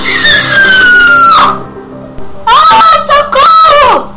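Loud, shrill screams up close: one long cry that slides downward, a brief pause, then two more sharp, desperate shrieks in quick succession.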